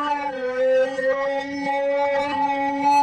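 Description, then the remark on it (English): A reversed sound effect, slowed down and processed with reverb and flange: a steady, howl-like harmonic drone that wavers slightly in pitch, holding at an even loudness for about three seconds with no talking. “And then when you reverse it, you get this.”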